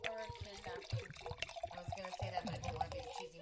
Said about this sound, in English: I love the sound of wine pouring. There's a couple of sounds in this world that are just always happy sounds. One is wine pouring.